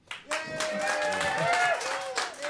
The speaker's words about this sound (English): That was very clear that there was not going to be any applause, and then there was a couple pity claps.